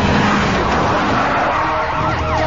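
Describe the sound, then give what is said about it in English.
Police squad cars skid around a corner, tires squealing in high wavering streaks over a loud, steady roar of engines. The sound stays dense and intense throughout with no pauses. “Deke shifts the gears as squad cars turn a corner.”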